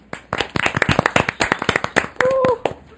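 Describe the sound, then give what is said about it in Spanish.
A burst of applause: many hands clapping in quick, uneven succession, fairly loud throughout, with a short rising whistle-like tone near the end. “Creo que la radio se merece un gran aplauso por todas las risas, por todos los que no...”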